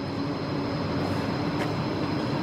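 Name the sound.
train station ambience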